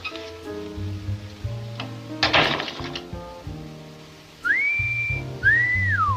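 Two clear whistled notes near the end, the first rising and holding, the second arching up then sliding down, loud, over a steady musical background with a brief noisy burst earlier, from a scene in the 1944 film To Have and Have Not.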